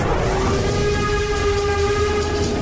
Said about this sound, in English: This is a steam train. It's powered by coal. That's a type of fossil fuel.